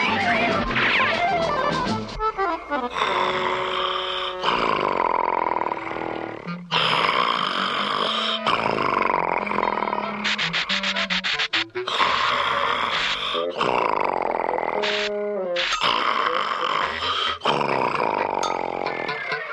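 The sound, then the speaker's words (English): A man snores loudly and in an exaggerated way without pause, each rasping snore followed by a different whistling or honking tone that rises and falls in pitch, with no talking. “Oh dear, I'll never get to sleep with … snoring like that.”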